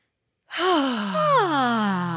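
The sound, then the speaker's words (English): A person yawns aloud, a long breathy vocal stretch that rises and then slides down in pitch, lasting under two seconds after a moment of silence, fairly loud. “Oh, I'm yawning today, but I don't know.”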